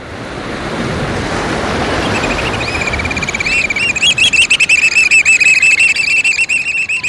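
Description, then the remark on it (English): Loud, shrill piping calls of a black oystercatcher, a stocky black bird with bright red eyes and a stout orange-red bill, ring out in rapid, repeated bursts over steady crashing surf on a rocky west coast shoreline, starting a few seconds in and building into an insistent high-pitched chatter. “We're crouching on a rocky shoreline on the west coast, hearing the piping call of the black oyster catcher, a stocky black bird with bright red eyes and a stout orange-red bill, perfectly suited for jabbing limpets and mussels.”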